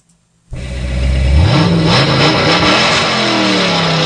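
A loud, powerful car engine roars to life after a brief silence and revs hard, its pitch climbing and sweeping as it accelerates close by, with no talking.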